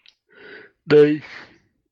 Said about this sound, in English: Excuse me. Didn't mean to yawn.